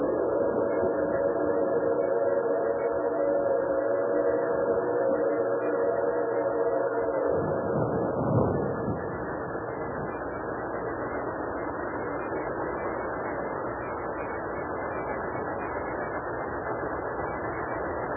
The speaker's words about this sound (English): Train's gonna stop right here in front of us. No, you don't have to run to catch it. It's gonna stop. Don't worry.